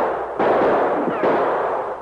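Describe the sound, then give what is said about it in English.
Two loud gunshots fired by Mounties back at muzzle flashes from a screen of trees fringing the edge of a cliff ring out almost a second apart, each a sharp crack trailing into a broad, lingering rumble of noise, with no voices present. “The shots were coming from a screen of trees which fringed the edge of the cliff. The Mounties fired back at the flashes.”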